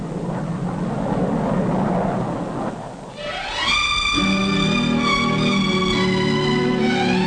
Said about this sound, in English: The first passenger jet clipper to fly the Atlantic. Because of its greater size and speed, it will do the job of several of the biggest propeller-driven planes.